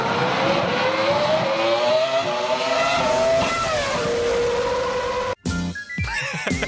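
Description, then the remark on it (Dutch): The high-revving 3-litre V10 engine of a Ferrari Formula 1 car from the 2003 season, offered by RM Sotheby's, screams loudly and continuously, its pitch climbing and shifting through gears, then cuts off abruptly before a second burst of rising revs. “En hij heeft ook weer die heerlijke 3 liter V10 motor.”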